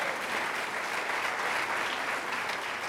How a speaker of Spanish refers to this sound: Jesús reina, aleluya. Aplauda al Rey de Reyes.